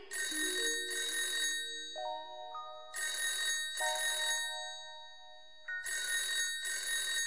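A phone rings out on an outgoing call in three paired bursts of bright, trilling electronic tone, each pair separated by a short pause with faint lingering tones, repeating steadily with no one talking.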